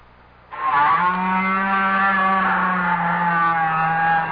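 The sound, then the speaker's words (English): A whale call from deep in the ocean: a loud, steady, buzzing drone that kicks in abruptly and holds for about four seconds, rich in overtones and sounding almost like a small engine idling. “If you agreed with these guesses, you've been fooled, because each sound was made by a whale.”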